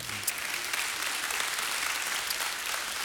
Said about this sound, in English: You can clap for that.